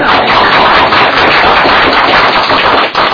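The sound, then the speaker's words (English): An audience at a meeting applauds a trainer being congratulated, a dense, steady patter of many hands clapping together, loud and sustained for about three seconds with no voices over it. “Let's give her a round.”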